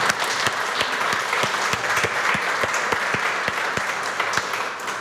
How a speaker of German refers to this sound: Beide sind hier. Danke, dass ihr heute gekommen seid. Ist ein kleiner Applaus wert.